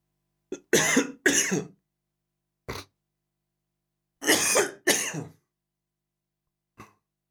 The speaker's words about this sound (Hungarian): Jó, köhögök egyet, és indítjuk.